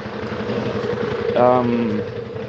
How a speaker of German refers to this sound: Moment, LKW.